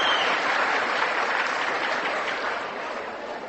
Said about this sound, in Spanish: El aplauso para las religiosas.